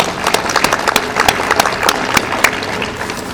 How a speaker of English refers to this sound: So unfortunately, Kitty is in hospice care now, but I hope if we give her a big round of applause, she'll hear it back in the D.C. area.